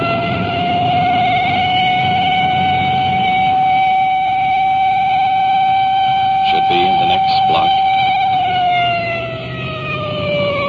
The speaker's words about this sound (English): As we approach each intersection, that siren hits such a high peak it's almost impossible to talk.